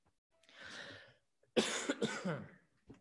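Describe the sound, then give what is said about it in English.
A person coughs from a tickle in the throat, starting with a raspy, breathy throat sound, then two loud, harsh coughs in quick succession, with no talking. “I got a tickle back there.”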